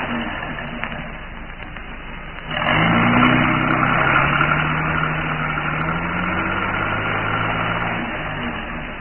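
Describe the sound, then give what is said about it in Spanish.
A car engine idles with a low rumble, then revs up sharply and keeps running as a loud, steady drone, its pitch gently rising and falling. No one speaks. “Y descubrió a la araña negra acompañado del árabe justo en el momento en que abordaban el auto.”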